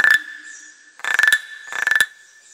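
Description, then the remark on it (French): A person imitates a frog, making three raspy, pulsing croaks. The first is short; the next two are longer, with rapid rattling pulses over a steady high-pitched tone. “Je fais bien la grenouille, la Razette.”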